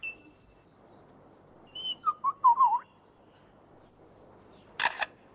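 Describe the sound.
A bird imitates a camera shutter: a few quick warbling whistles, then a sharp, crisp double click like a shutter firing, clear against quiet forest background.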